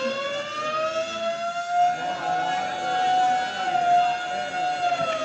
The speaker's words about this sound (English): And suddenly the quiet routine of the prison is broken by frantic bells and the shrieking wail of the siren.